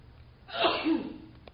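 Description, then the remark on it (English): A single sneeze bursts out at moderate volume, sharp and breathy, with a brief inhale before it and quiet afterward. “Bless you.”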